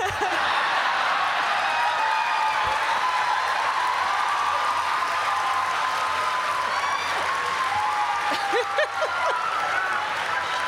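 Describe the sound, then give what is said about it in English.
A crowd claps together as part of a sing-along bit, a dense, steady wash that holds at an even loudness for about ten seconds, with a few voices and cheers rising through it near the end. “We're doing the clap.”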